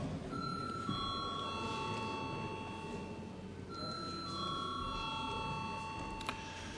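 A chamber bell rings in two bursts, each a bright, sustained metallic tone that slowly fades, over a steady low murmur of background noise, in a session of the Latvian Saeima (parliament) before a vote.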